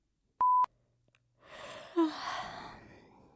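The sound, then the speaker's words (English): A short electronic beep, then after a brief pause a long, breathy yawn with a low voiced groan in the middle, fairly loud, trailing off softly. “That was a real yawn, ladies and gentlemen.”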